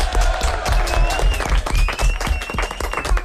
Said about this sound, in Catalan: Oh, molt bé, aplaudiment.